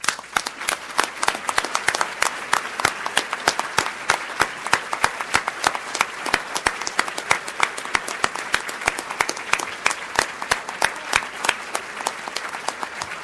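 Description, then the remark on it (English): Sustained applause from a sizable audience at an award ceremony as this year's winner is announced, dense and steady clapping for the whole stretch with no voices rising above it. “Now, I'll just ask you to hold your applause for a second, because you're going to have a chance to clap him when he comes up on stage in just 1 second.”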